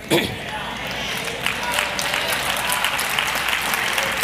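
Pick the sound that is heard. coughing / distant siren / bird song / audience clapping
audience clapping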